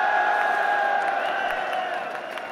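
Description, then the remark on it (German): A crowd of thousands of esports fans and ultras cheers together at a live esports event in France, a dense sustained roar with voices rising in unison and scattered whoops, loud and continuous throughout. “Ja, so klingen E-Sport-Events in Frankreich mit tausenden Fans und Ultras.”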